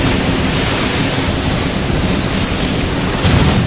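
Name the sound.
ocean waves crashing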